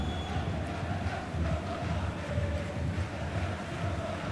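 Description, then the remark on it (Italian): A large crowd of Genoa football fans sings together in a stadium during a match against Napoli, a dense, continuous roar of many voices holding steady and loud throughout, with no single voice standing out. “Dai ragazzi, non mollate, credo che cantino i tifosi del Genoa.”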